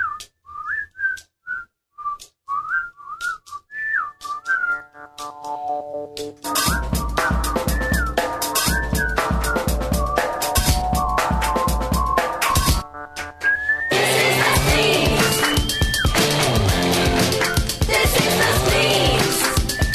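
A song opens with a lone whistled melody over a soft backing, then a full band bursts in loudly with drums and dense instrumentation, pauses briefly, and surges back even fuller.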